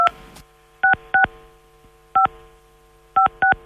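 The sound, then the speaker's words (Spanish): Phone keypad tones as a Chilean RUT ID number is keyed in, followed by the hash key, on Banco de Chile's Fonobank phone line: about ten short, clear beeps, mostly in quick pairs separated by brief pauses, over a faint steady hum, with no talking. “Por favor, ingrese su RUT seguido del signo gato.”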